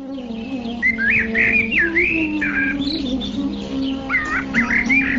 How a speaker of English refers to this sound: The valleys beneath Trikuta Mountain are beautifully decorated by many varieties of jungle animals, and in the trees, which are maintained in gardens by the demigods, varieties of birds chirp with sweet voices.